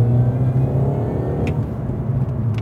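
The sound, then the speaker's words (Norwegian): An old car's engine hums steadily with a low, droning pitch while driving, mixed with a continuous rumble of road and tyre noise, plus a couple of brief high clicks. “Jeg håper det at det ikke bare blir noen støy fra dekkene.”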